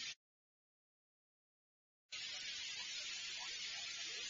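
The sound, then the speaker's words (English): Eggs fry in a frying pan with a steady, crackling hiss that starts after a short silence and keeps going fairly loud, with no one talking. “You aren't frying the eggs the right way.”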